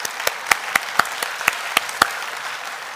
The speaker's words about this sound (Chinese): 我们在座的每一位母亲，我们真是用掌声再次来祝福我们在座的每一位母亲。